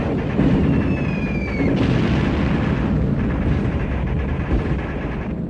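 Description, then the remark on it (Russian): Aerial bombs dropped by four Junkers aircraft explode in a dull, continuous rumbling roar that barely lets up, with a thin high whistling tone sliding downward early on. No voices are heard. “Глухо доносятся разрывы.”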